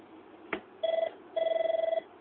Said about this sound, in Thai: ครับมีสายเข้าใช่ไหมฮะเมื่อกี้นี้เชิญครับ